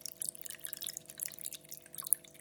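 Running tap water splashes unevenly over a hand and finger held under the flow, a continuous hissy spatter with small bursts and one brief sharp splash near the end, over a steady low hum. No one speaks.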